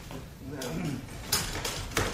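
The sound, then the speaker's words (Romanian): A small wall cupboard door is pulled open, with a soft creak followed by two sharp clicks of the latch and hinge, while faint voices murmur in the background. “Lambert, deschide ușa de acolo.”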